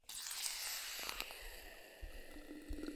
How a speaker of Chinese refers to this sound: 来听听气泡水和冰块的声音吧。